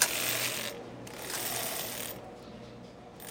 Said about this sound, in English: They're these sort of very heavy, very clunky, very low-tech knitting machines. It looks a little bit like an electric keyboard, only with needles instead of keys.